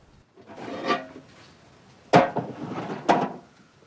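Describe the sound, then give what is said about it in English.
A rusted metal tray is picked up and handled at a barn with a padlocked side door, giving a scraping rattle followed by two sharper metallic clanks with a brief ring, with no voices. “Pollock picks up a rusted metal tray.”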